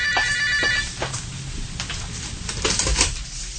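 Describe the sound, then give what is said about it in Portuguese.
A telephone rings with a bright, trilling electronic tone, repeating in short bursts over a low background hum; no one speaks. “Oh, telefone.”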